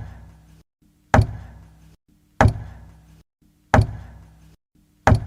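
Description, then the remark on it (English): Four sharp, evenly spaced knocks from the other side of a wall formed by a cave-in, each with a short ringing decay, separated by brief pauses over a steady low rumble. No one speaks. “From the other side of the wall created by the cave-in, Matt could hear a regular knocking.”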